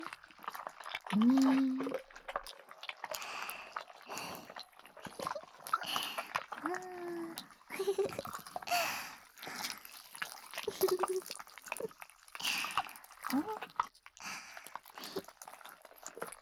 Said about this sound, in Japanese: ねえ、お耳が幸せになっちゃう音を奏でちゃうのが、この子のすごいところ。ほら、今度は目を開けて。あらゆる動きを見せるスライムくんの自由さを、音と一緒に、観察だ。こねこね。